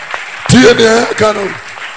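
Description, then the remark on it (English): Scattered audience clapping forms a steady, hissy wash underneath a loud voice that speaks a drawn-out phrase in the middle, with the applause continuing faintly on its own before and after. “Are you clapping or you want to clap?”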